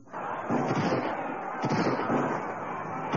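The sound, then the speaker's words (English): A loud volley of gunfire from Pinkerton men at the front lines of a strike: a dense, continuous barrage of rapid cracks and pops, with a couple of sharper bursts standing out, sustained for about three seconds. “This is another volley being fired.”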